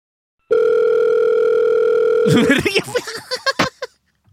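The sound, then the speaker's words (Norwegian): A steady, loud telephone ringing tone of an outgoing call, placed over a headset to a caller from the Norwegian newspaper Tønsbergs Blad, hums for nearly two seconds, then cuts off as a voice answers and talks briefly. “Jeg ringer deg, ja.”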